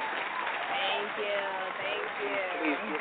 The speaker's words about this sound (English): All right. Round of applause. Hold on, we put it with a round of applause. Thank you.